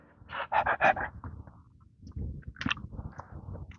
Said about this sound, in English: Panting all the way.